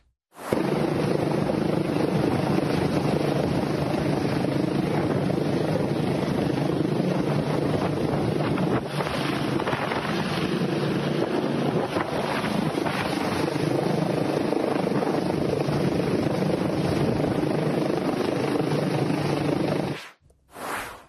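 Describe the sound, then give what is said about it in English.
A low-flying military-style helicopter hovers loudly, its rotor wash roaring like a strong, gusting wind used to disperse crowds in Washington, D.C., buffeting the microphone nearly nonstop for about twenty seconds before cutting out. “I saw in that video, Rick, the military style helicopter was using the wind, using the force as it was low to the ground to disperse the crowds, disperse the anarchists as journalists,”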